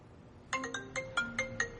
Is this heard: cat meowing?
no